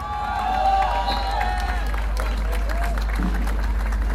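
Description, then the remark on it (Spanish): A crowd at a No Más AFP movement rally demanding a new pension system applauds the movement's spokeswoman steadily for about four seconds, with dense clapping mixed with scattered cheers and raised voices over a low, constant rumble. “Un aplauso para ella.”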